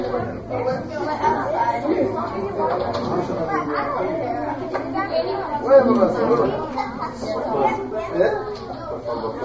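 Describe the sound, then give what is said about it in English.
A roomful of children chatter over one another in a steady, overlapping hum of voices, with no single speaker standing out, the noise rising and falling slightly throughout. “Or we take another rest until you're done talking? I just want you to finish your chats.”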